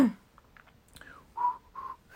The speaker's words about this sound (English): Please whistle a tune. Ugh, okay. A tune. What do I sing? I will do the lovely classic Twinkle Twinkle Little Star. Oh, I'm not a good whistler though.